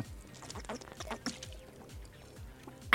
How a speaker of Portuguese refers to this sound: Toma uma aguinha aí, gata. Vou tomar uma água. Ah, rapidinho, dá um golinho aí.